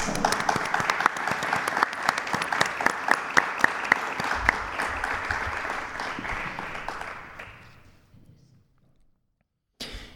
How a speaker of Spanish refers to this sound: Un aplauso para ellos.